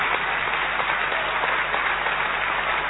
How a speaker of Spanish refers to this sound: Aquí estamos en Loma de Zamora, en el Teatro Español, con mucha gente amiga que se ha acercado aquí. Vamos a saludar con una ovación desmesurada a Patricio Barto.